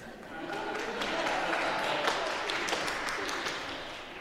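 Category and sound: crowd, slow clap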